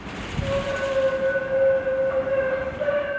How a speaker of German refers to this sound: Das laute Quietschen der Straßenbahnlinie 305 verschwand 1989 mit der Eröffnung der U-Bahn-Linie, die vom Schloss Strünkede bis Bochum Hauptbahnhof führte.